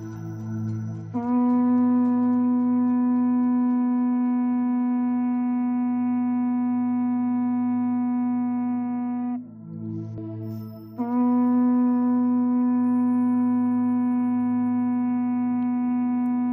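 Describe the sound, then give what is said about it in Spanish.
Two long, steady blasts from traditional horns (bocinas), the sound that by legend summoned the Juntas Generales meeting in Guernica, Biscay, in the 14th and 15th centuries, called from the mountains; a loud, brassy tone rich in overtones held for several seconds each, separated by a short pause, with a low drone underneath. “Es el sonido de las bocinas con el que dice la leyenda que se anunciaba que se convocaba la reunión que tenía lugar en Guernica en los siglos XIV y XV.”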